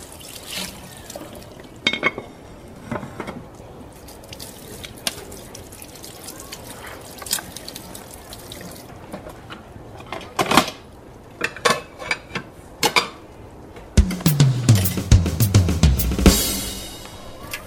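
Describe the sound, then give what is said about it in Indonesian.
A metal pot that was used to boil chicken is scrubbed and rinsed under running water, with clanks and scrapes against a steady trickle, and a louder rush of water near the end as it fills and is swirled. No talking. “Panci ini udah selesai untuk merebus ayam tadi. Bisa Tiang cuci dulu.”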